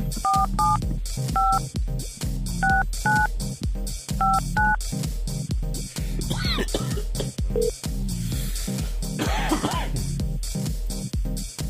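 Telephone keypad tones beep in short bursts as someone dials a humor hotline, about seven presses over the first five seconds, played over a loud, steady rhythmic backing that continues after the dialing stops.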